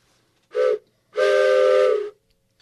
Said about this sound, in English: I just heard that train whistle, and I think we need to check on the rest of our brothers in the boxcars.